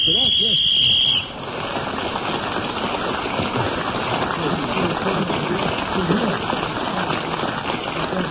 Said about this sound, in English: And Derek was speaking as the whistle went, so let's blow the whistle again.